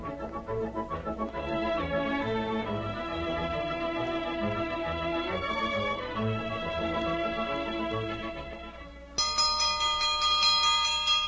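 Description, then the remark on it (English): A bell rings out loud over a dense, sustained musical backdrop, calling people to breakfast, and a brighter, sharper clanging takes over near the end. “Come and get it! Here's a bell ringer breakfast dish.”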